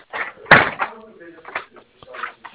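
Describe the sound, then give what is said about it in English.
A house's front door opens and shuts with one sharp, loud thud, while indistinct voices murmur before and after it. “Front door.”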